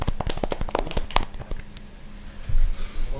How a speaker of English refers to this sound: Golf claps.